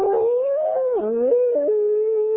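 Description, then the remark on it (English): A person imitates a bluetick hound dog's howl, a single sustained, wavering vocal bay with pitch bends and steps, loud, lasting a couple of seconds with no other sounds. “You know, a good blue tick hound dog goes, oh.”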